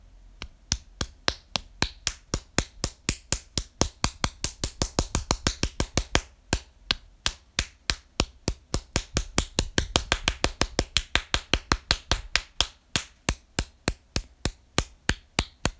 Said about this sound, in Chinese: 跟着我的节拍，我拍手的节拍啊